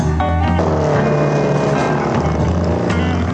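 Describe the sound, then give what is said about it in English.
A motorcycle ridden by a mod drones steadily and loudly, a deep rumbling hum with a buzzing edge that holds even throughout, with no voices. “A mod guy on a motorcycle.”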